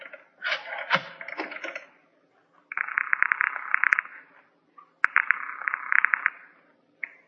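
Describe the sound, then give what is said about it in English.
A telephone call being placed: a quick clatter of dialing clicks, then two buzzing rings separated by a short pause, with no voices. “May I use your phone?”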